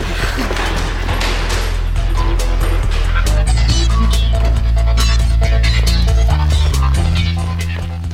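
A car engine rumbles steadily and loudly as it drives off along snowy roads, its low throb shifting pitch a couple of times, with sharp, bark-like bursts scattered over it and a slight fade at the end.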